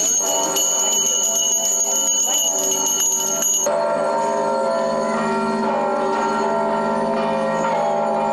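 Bells ring continuously and loudly during an Orthodox religious procession in Penza, Russia: a dense clangor from the bells of a church under construction mixed with many small handbells held by participants jingling together, the bright tones shifting partway through as different bells sound.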